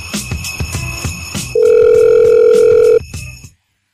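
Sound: telephone call ringing tone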